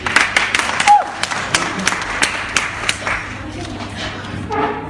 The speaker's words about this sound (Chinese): 谢谢您这个掌声鼓励啊。